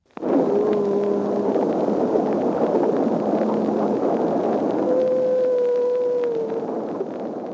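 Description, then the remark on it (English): Humpback whale song recorded underwater off the coast of Bermuda in 1949: several long, drawn-out moaning tones, steady, rising above a constant rushing hiss of background noise throughout. “The recording from 1949 captures the sound of humpback whales off the coast of Bermuda.”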